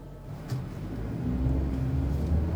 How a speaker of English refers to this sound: So I got in my car and traveled west.